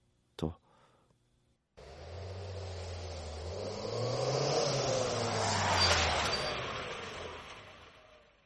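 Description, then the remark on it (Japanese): A brief knock, then a car engine hums steadily with broad road noise, its low tone rising and falling as the vehicle changes speed, swelling louder midway before easing off, as the car pulls over near Tonobashi bridge at sunset. “シャメ撮ろ。車止めて。”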